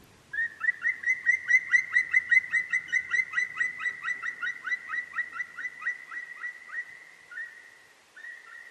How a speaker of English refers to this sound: So I think it's very, very stimulating, this interaction between birds and humans. But in fact, we know that bird songs are not aesthetical only for the human mind, human sensibility, because for the birds it's just another meaning, another situation